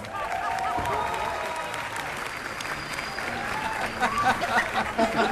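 A crowd applauds steadily for several seconds, a dense, continuous clatter of many hands, with faint cheers and voices rising in the mix toward the end.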